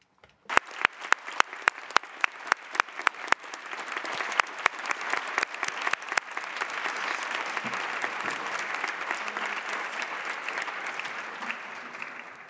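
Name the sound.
applause in assembly hall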